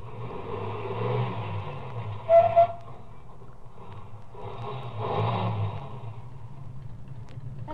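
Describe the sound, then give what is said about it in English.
A car engine hums and revs, its pitch rising and falling as the car slows down, stops, turns around and comes back, with a short high squeal partway through and the motor swelling louder. “Ahead, the car that passed me slowed down, and it also stopped. Then turned around and came back toward me.”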